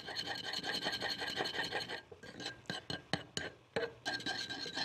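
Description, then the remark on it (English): Rapid, rhythmic scraping of a spoon stirring a salad dressing of lemon juice and salt around a bowl, a steady rasp that breaks into separate strokes midway before picking up again; no voices. “And just keep stirring and you get a lovely dressing.”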